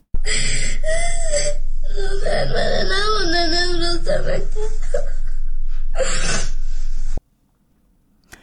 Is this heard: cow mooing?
no